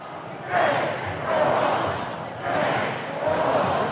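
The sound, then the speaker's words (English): A large crowd of Portland protesters chants "Feds, go home" in unison outdoors, voices rising and falling in a steady repeating rhythm, loud and continuous with a dense wash of many shouting voices. “A large crowd of Portland progressives chanting, "Feds, go home."”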